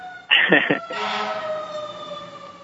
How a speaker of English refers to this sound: You got the cops outside? No, I live near a busy street, so I hear sirens 24/7 and a train.